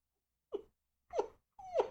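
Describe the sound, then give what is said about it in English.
A person makes three short, whiny, dog-like whimpers, each a brief falling squeal, spaced about half a second apart. “Dude, you sound like a whimpering dog.”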